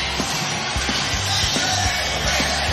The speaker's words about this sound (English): Boy, the round of applause he's getting right now is pretty staggering. And you had to imagine that's what was going to happen.